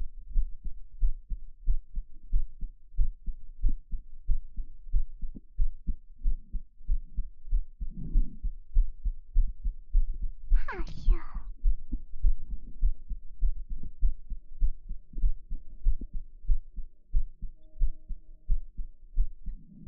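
heartbeat

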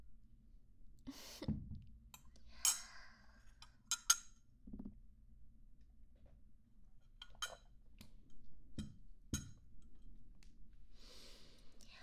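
glasses clinking

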